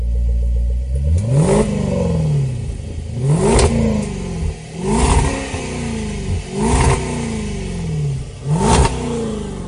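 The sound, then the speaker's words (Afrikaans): A V8 car engine revs hard about five times in a row, each blip climbing sharply in pitch to a loud roar, then dropping back to a deep rumbling idle between bursts. “As daai V8 begin brul, dan kan jy nie help om hom net dieper en dieper dieper te trap nie”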